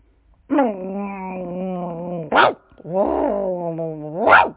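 A human voice imitates a dog, with two long, rough, growling stretches, each ending in a sharp bark-like yelp. It is fairly loud, with no other sounds around it.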